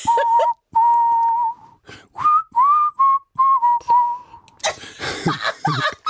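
A person whistles a short, wavering tune in several separate phrases, clear, then breaks off into breathy laughter or noise at the end.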